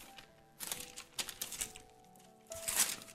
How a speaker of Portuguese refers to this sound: vou até pegar minha Bíblia aqui, que está do lado. Eu estou com o versículo aberto, mas eu gosto sempre de ter a Bíblia impressa aqui do meu lado. Nada substitui a Bíblia impressa. Jeremias... Como eu amo do barulho das folhas, né? Folheando-as.